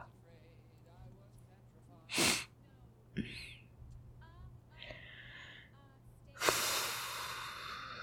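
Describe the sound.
Breathy yawning: a sharp intake of air, some soft voiced whimpers, then a long drawn-out exhale that trails off, over a faint steady hum.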